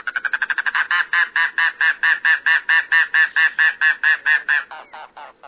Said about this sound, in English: There lurks a more secretive bird in the Everglades and Florida Keys, the mangrove cuckoo. Rarely seen, it sings sporadically in winter, but when it does, you'll know it.